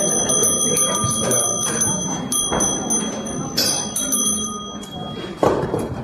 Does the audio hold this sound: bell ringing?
yes